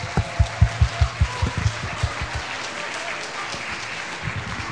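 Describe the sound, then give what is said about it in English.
An audience claps for a group of volunteers, with a burst of strong, evenly spaced claps at first that soon fades into a softer, steady patter of applause. No one speaks. “Should we give our crowd of volunteers a big hand of applause?”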